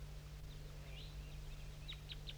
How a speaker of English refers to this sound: And there's some wild birds I'm going to point to that are down still in that oak tree.